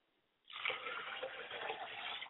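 household object, pouring liquid libation

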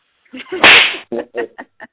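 sound effect, slap sound effect

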